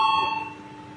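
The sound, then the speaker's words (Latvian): A loud electric bell rings in parliament to call a vote on an amendment, continuously for about a second, a steady bright tone with ringing overtones that fades slightly toward the end, with no talking. “Lūdzu zvanu, balsosim par 34. deputāta Vucāna iesniegto priekšlikumu.”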